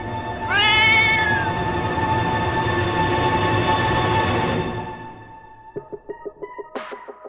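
A large black cat gives a loud, drawn-out meow that rises into a long, sustained yowl lasting several seconds, then fades into a short series of quick rhythmic pulses near the end, with no voices.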